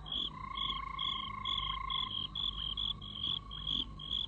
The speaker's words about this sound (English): The frogs sing again.